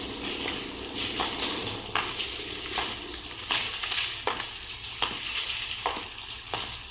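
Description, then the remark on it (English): Steady rain hisses across a broad band of sound, broken by irregular soft splashes and patters every second or so, with no voices heard. “Sure is raining.”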